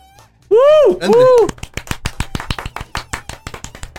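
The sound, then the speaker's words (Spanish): Two loud, swooping vocal whoops give way to a few seconds of brisk, irregular hand clapping, sharp and steady, like a small group applauding. “PS, que es un aplauso.”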